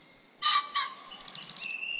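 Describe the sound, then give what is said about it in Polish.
A male common pheasant gives its loud, harsh two-syllable courtship crow, two quick ringing notes close together, followed by a short wing whirr as it briefly springs into the air, then quieter outdoor background with faint bird tones. “Głos to, jak słyszymy, dwusylabowe okrzyki, po których następuje krótki furgot.”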